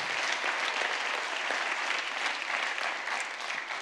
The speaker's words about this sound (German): Jawohl, Applaus, genau.